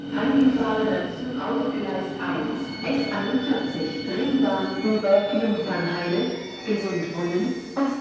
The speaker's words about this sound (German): Endlich wieder Leben auf dem Bahnsteig Messe Nord ZOB. Die S-Bahn-Züge fahren wieder im Takt. Die Ringbahnen S41 und S42 und auch die S46 nach Königs Wusterhausen.